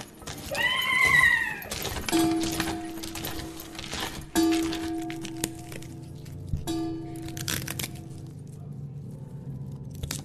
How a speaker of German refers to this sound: Glockenschläge einer Kirchturmuhr, eine Pferdekutsche auf den nächtlichen Straßen Londons, knisterndes Feuer. Künstlich oder künstlerisch erzeugte Geräusche aus der Werkstatt